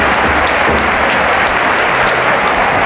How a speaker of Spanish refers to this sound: Ahí está, y encima respondieron pero muy bien también, aplauso, felicitaciones.